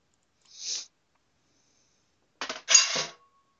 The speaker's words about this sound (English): No, she was just throwing something into the dishwasher because she's not satisfied with me washing dishes.